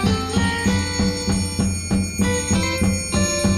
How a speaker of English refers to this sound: Well, turn it up. I feel like I know this song. You do. Maybe not this version. No.